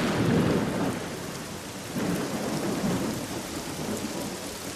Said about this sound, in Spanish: Mira la lluvia que aplaca el hambre de Padán. ¿No te das cuenta? Empezó a llover justo cuando nació el hijo de Jacob y Raquel.